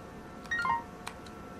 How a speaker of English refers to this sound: I'm getting notification sounds. Woo! Got money.